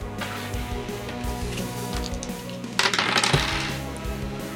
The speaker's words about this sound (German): Dann würfel einmal Schadenspunkte. 4d10, bitte.